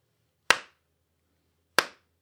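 Two sharp, isolated hand claps spaced over a second apart, each a loud crisp crack that quickly decays, in an otherwise quiet setting with no talking.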